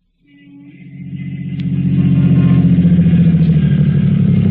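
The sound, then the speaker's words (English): A car engine rumbles, swelling from quiet to a steady, throaty idle-like drone that holds for several seconds with no voices, as a car carrying two men pulls to a stop in front of a house in East Baltimore. “Two men were riding in a car which was pulling to a stop in front of a house in East Baltimore.”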